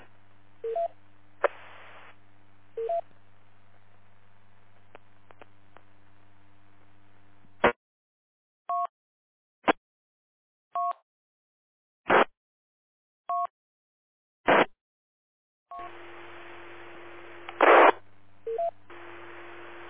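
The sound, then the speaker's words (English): A string of short DTMF touch-tone dialing beeps, about seven in steady succession, dialing IRLP radio repeater node 512537, with radio static and hiss rushing in before and after; no one speaks. “Node 5, 1, 2, 5, 3, 7, timeout.”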